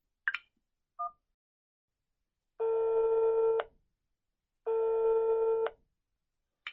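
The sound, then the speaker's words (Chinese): A phone call being placed to a boyfriend: a couple of quick dialing beeps, then two long, steady ringback tones about a second each with a pause between, clear with no voices. “哇，让我缓一缓，用正常的语气打个电话，让他上门操我。”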